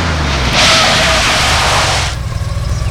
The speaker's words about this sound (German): Warte! Da kommt ein Auto auf den Hof. Ein Sportwagen.